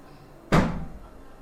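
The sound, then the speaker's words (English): A single solid door shuts with a sharp thump, its low boom decaying over about half a second before quiet room noise returns. “Can you go close the gate and then close this door?”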